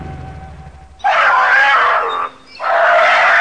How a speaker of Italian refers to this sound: cos'è questo rumore? Sembra un cucciolo di tigre. È anche spaventato. Forse sta per essere vittima di un predatore.